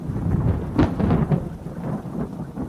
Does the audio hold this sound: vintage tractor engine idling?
no